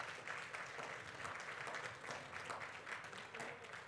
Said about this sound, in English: Come on, bless the Lord with a hand clap of praise.